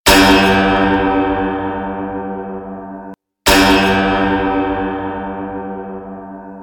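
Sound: bells ringing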